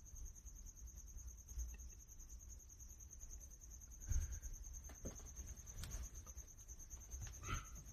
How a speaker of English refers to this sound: I hope that cricket doesn't annoy you guys in the background. There's a cricket I got to hunt out of this little room, get rid of him.